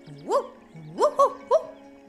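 A voice imitates the neighbors' dog barking: one drawn-out woof, a short pause, then three quicker woofs in succession, fairly loud with no other sounds around them.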